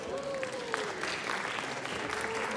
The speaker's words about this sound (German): Da klatscht so wenig.